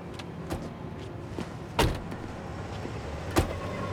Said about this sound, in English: They've come to a halt, and one by one they get out of the vehicle.